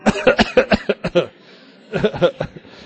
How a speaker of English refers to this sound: So to make it nice and peaceful for the during the talk, can we all cough in unison at the beginning and have it all done and ready? So communal coughing first of all, please.